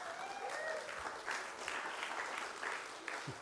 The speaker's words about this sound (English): It's going to be easy tonight, eh? They're already cheering for you.